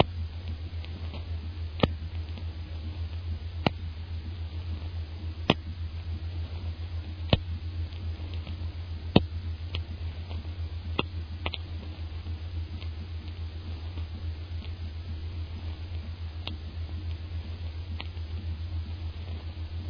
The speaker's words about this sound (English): Hey, it's starting to sprinkle. I told you it looked like rain.